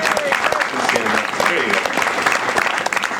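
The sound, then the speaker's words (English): Steady audience applause at a student band concert for the saxophone and trombone soloists, a dense wash of clapping hands that stays loud and even throughout, with faint crowd voices mixed underneath. “Learning how to stand up and accept applause.”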